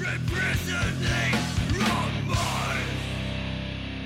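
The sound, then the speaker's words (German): Loud, dense hardcore band music from the Berchtesgadener Land, with heavy distorted guitars and pounding drums, a harsh screamed vocal from the singer tearing over the top, continuous and up front for the whole stretch. “Es ist laut, es ist mit viel Geschrei verbunden.”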